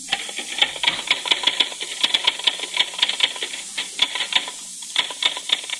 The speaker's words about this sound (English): That sounds like someone typing. That's just what it is, a typewriter.